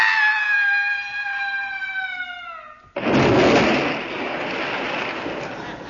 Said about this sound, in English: He's falling in the water.